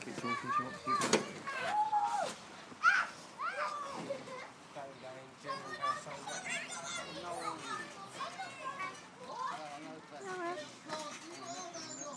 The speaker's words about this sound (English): They're on the trampoline as well, which is the squeaking noise.